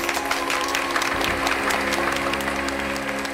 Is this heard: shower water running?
no